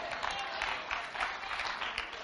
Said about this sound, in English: Look at your hands this morning. Say, it's all right to clap.